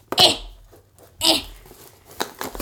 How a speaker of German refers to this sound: Ich mache jetzt das große Unboxing von TOTK. Schnell mit der Schere reinhauen.